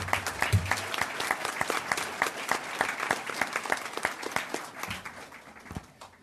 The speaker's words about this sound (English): Big round of applause.